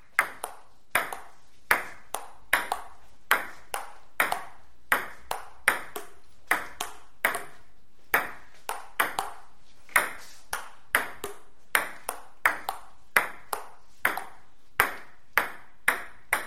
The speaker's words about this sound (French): Le ping-pong, ou plutôt le son de la balle de ping-pong, avec sa capacité à rebondir indéfiniment, ou plutôt anarchiquement.